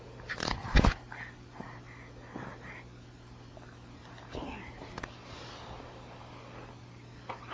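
A pet gnaws on a chew toy: a loud burst of crunching near the start, then scattered softer bites, clicks and snuffling over a steady low hum.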